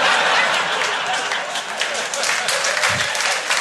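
A crowd applauds steadily, a dense, even wash of many hands clapping at once that stays loud and sustained throughout, with no voices standing out.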